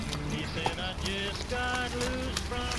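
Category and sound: nature, steady rain falling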